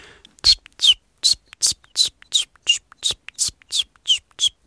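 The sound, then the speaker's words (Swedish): A person imitates chiffchaff song with breathy, whistled-whispered notes, about twelve evenly spaced high chirps in a steady two-note-like rhythm, moderately loud with silence between them. “Jag har varit i Göteborg nyligen och där sjöng bland annat gransångare som är ganska sentida invandrare i södra Sverige. Hur låter den? Ja, ungefär så här.”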